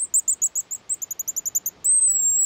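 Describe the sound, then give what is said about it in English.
A rapid series of high, thin, shrill whistled notes from a pigeon guillemot, a small seabird related to puffins, about a dozen short pulses, ending in one sustained piercing whistle; loud, no talking, over the waves along the Pacific coast. “These shrill notes belong to a little seabird, the pigeon guillemot.”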